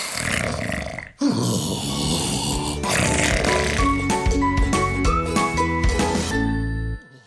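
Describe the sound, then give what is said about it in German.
Cartoonish snoring of Ole, a sleeping blue owl, rumbles steadily for several seconds, mixed with tinkling, chime-like music and bright ringing tones, stopping abruptly near the end after a brief break early on. “Die blaue Eule schläft.”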